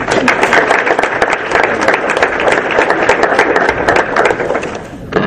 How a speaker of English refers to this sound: Let's give the panelists another round of applause.